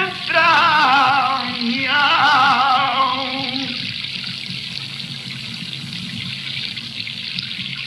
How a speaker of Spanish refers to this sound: O sea, le hablaba de hacer un piano de agua. O sea, una especie de pieza con base de sonidos de agua.